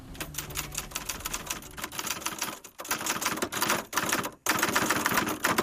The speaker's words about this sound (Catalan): Com una màquina per escriure. Això, molt bé, una màquina d'escriure.